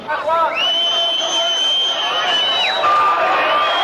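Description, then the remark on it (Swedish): A dense Palestinian street crowd in Nablus, West Bank, cheers and shouts loudly and continuously, with a shrill, sustained high-pitched cry or whistle riding above the roar of many voices. “Och trots fortsatt palestinskt jubel som här i Nablus på Västbanken idag, så är det mycket som är oklart.”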